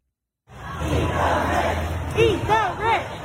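A large protest crowd shouts together outdoors on Rodeo Drive, a dense roar of many voices with rising, strained yells that swell in rhythmic bursts, chanting "Eat the rich," loud.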